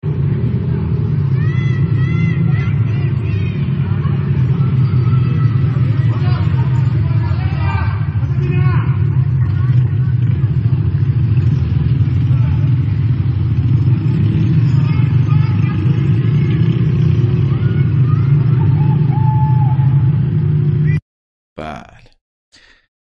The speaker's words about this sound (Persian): این نیروهای سرکوبگر جمهوری اسلامی تو ستارخانه که دارن گشت میزنن، ولی مردم از بالا دارن شعار میدن.